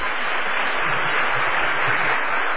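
A crowd claps steadily and evenly throughout, a dense, sustained wash of applause at fairly loud volume, with no voices rising above it.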